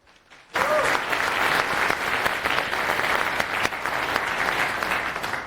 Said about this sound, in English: Round of applause.